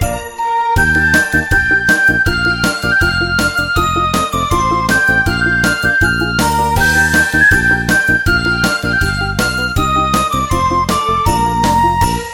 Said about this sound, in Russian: Колокольчики играют, с Новым годом поздравляют, и звучит со всех сторон новогодний перезвон.